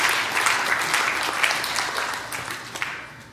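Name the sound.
audience applauding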